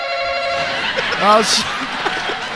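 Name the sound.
bell being rung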